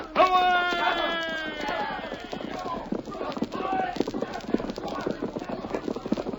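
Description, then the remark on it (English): A horse lets out a high whinny, then hooves pound in a fast, steady galloping rhythm, clattering loudly and continuously for several seconds, as riders get on their horses and gallop away. “Get on your horse, Tonto. Help me.”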